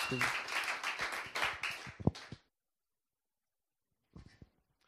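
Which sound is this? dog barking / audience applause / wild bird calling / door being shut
audience applause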